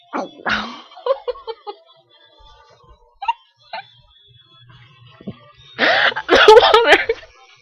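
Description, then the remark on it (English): A wet splutter as a sip of water sprays from someone's mouth while laughing during a challenge, amid short bursts of stifled laughter, then a louder, longer sputtering spray near the end. “The water just came out of my mouth.”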